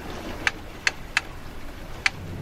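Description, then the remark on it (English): Four sharp, dry ticks from a fishing rod reel on a boat out at sea come at an uneven pace over a low, quiet rumble, each click brief and crisp with short pauses between them. “let's hear how Williams handles this scene as the rod starts to tick here”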